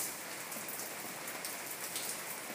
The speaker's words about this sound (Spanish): hay algo tan tranquilizante, pero al mismo tiempo tan fuerte, que solo la lluvia puede darte.